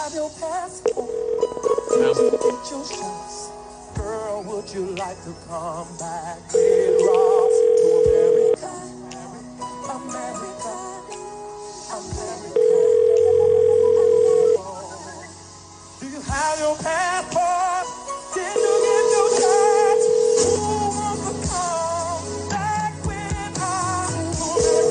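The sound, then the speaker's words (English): A telephone ringback tone of an unanswered call repeats about every six seconds, each steady two-second ring sounding loud and clear over busy background music. “I guess they're never going to answer the phone again, huh?”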